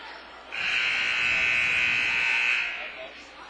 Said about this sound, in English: Buzzer sounds, and we are just about set for the second half of basketball.